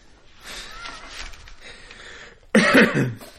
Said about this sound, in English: But I had a little cough